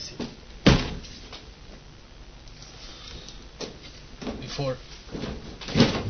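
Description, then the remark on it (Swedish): A door or window being shut on a chilly morning: a sharp knock, then creaks and a rattling clatter midway, ending with a firm thump as it closes. “Och det är lite kyligt, jag måste stänga till.”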